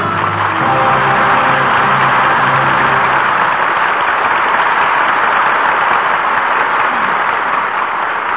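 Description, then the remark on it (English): Steady, sustained audience applause saluting three performances, with Charles Boyer, Paulette Goddard and Susan Hayward returning for a curtain call; a dense wash of clapping that stays loud and even throughout, with a faint low musical tone fading out underneath during the first few seconds. “Your applause gives proper salute to three fine performances.”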